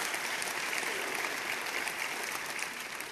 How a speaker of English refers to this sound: But I do want to be a follower of Jesus Christ. And there's a big difference between the two. So it's worth clapping for.